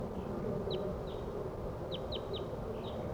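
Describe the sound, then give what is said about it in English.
Wild crossbills coming in give about six short, sharp 'kip' calls, some in quick pairs, scattered irregularly over a steady low rumble of background noise. “crossbills are coming in now. These are wild birds.”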